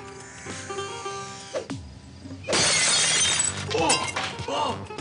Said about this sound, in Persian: اینجوری که دست این میلرزه الان سنگو میزنه تو شیشه زندان ما.